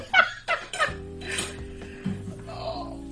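dishes clattering

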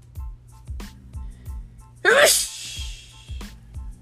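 sneeze

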